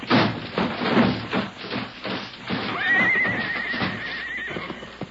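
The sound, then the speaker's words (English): Out-of-control horses pulling a stagecoach whinny loudly, one long high neigh rising and wavering over a busy clatter of hooves clip-clopping in quick, uneven beats. “Rein in your horses. The horses are out of control.”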